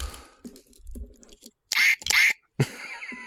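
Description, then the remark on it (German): Two loud, squeaky quacks from a squeezed toy duck in quick succession, followed by a shorter third squeak, with some quiet handling noise just before. “Ich hab noch eine Ente, warte.”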